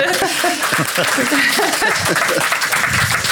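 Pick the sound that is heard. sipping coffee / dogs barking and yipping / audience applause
audience applause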